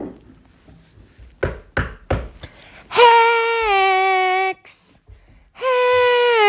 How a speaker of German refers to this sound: Geht mit dem Zug zurück auf St. Gallen, geht in den Wald und klopft bei der Hex.